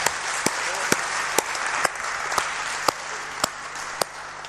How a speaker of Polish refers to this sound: Przede wszystkim chciałbym, żebyśmy jeszcze raz oddali oklaski dla Boga, dla Jezusa i Ducha Świętego.